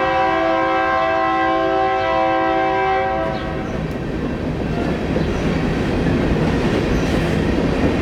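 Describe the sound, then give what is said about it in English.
A Union Pacific train horn blares in one long, steady chord for about three seconds, then the loud rumble and clatter of the passing train takes over and continues without voices. “Whoa, it's coming through. Yes, here comes our Union Pacific train.”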